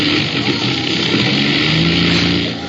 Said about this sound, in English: Listen. There go the engines.